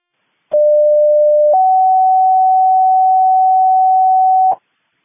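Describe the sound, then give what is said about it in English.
Two-tone pager alert of the kind used for EMS dispatch, sent by dispatch as an administrative test page for EMS pagers: a steady pure tone for about a second, then a slightly higher tone held for about three seconds, loud and clean, with no voices. “Do you want a test page with the verbal at the end, or do you just want an administrative test page?”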